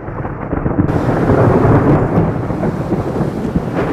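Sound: close thunder clap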